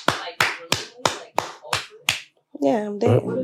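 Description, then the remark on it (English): Seven sharp hand claps ring out in a steady, evenly spaced rhythm, each crisp and bright, before a voice starts singing right after they stop. “Clap your hands if I should disclose with all the niggas that I'm dating, though.”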